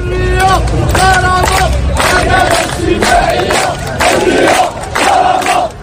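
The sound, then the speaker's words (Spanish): A Generation Z protest crowd of more than 200 participants in Casablanca chants loudly in unison for freedom and dignity, voices rising and falling in a steady rhythmic cadence of repeated phrases, with strong harmonic shouts filling the whole stretch. “Como esta, por ejemplo, en Casablanca, el grito de libertad y dignidad con más de 200 participantes.”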